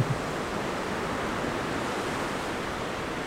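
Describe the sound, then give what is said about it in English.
A steady, broad wash of surf noise from ocean waves at a beach, a constant roar with no distinct breaks, heard on its own without any voices. “We thank you, Lord, for this beautiful beach where we can remember our brother.”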